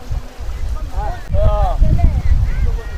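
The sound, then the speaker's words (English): A low rumble of a green wooden fishing boat with fishermen from the deep sea approaching an ocean shore rolls under gusty wind noise, while several voices call out in rising and falling shouts. Women, men and children with baskets wait on the shore to buy fresh fish. “our conversation is interrupted by a green wooden fishing boat with fishermen from the deep sea approaching the shore, where women, men and children with baskets eagerly wait to buy fresh fish.”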